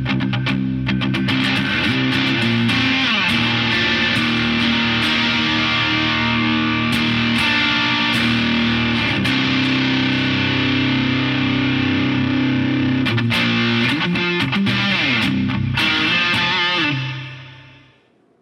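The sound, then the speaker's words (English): A distorted electric guitar, with the clipping from an RK drive pedal and Hydra reverb added, plays sustained, chord-heavy phrases with a lush reverb tail, loud throughout, ringing out briefly at the end before fading into silence. “Add a little Hydra reverb to it.”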